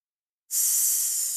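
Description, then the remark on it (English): After a brief silence, a person breathes out through the open mouth in a long, steady, sharp hiss, imitating a snake as a breathing exercise taught to kids. The bright, airy sound starts abruptly and holds at an even loudness. “Or a snake, same idea.”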